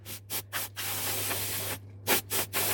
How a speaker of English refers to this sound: This is far from over, but I need to dust down something. And I know I've got anti-static air duster. There we go.